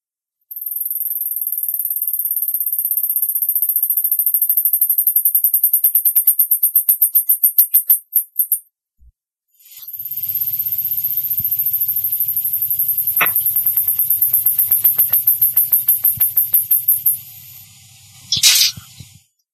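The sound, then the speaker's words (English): Two mice sing a duet: one high, whistly trill of rapid repeated notes that quickens and breaks off, then after a short pause a second similar trill answers over a low steady hum. “You are first going to hear the mouse that starts the duet, and then you will hear the second mouse who is finishing the duet.”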